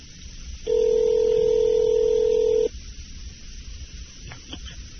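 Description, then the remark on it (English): A phone line rings out on the caller's end: one steady, buzzing ringback tone lasting about two seconds, then a quiet pause with a few faint clicks and no one picking up. “She ain't even answering this bitch.”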